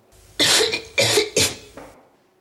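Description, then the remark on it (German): Three loud, harsh coughs in quick succession, followed by a softer, trailing fourth cough, with no talking. “Wir sind bei Huster 6, glaube ich.”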